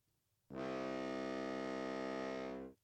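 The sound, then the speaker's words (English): A single loud foghorn blast: a deep, buzzing, steady tone rich in harmonics that starts abruptly, holds evenly for about two seconds, then cuts off. No voices are heard. “I don't have any rest in peace music, so I'll just play him this foghorn.”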